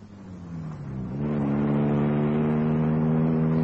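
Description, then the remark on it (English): A car engine revs up and pulls away fast, its droning pitch dipping briefly before settling into a steady, loud, sustained roar. No one speaks. “I got in my car and drove at a high speed.”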